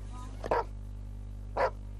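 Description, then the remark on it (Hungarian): A dog barks twice at an international dog show in Salgótarján, Hungary, two short sharp woofs about a second apart, over a steady low background hum with no talking. “Ugatás csak vezényszóra.”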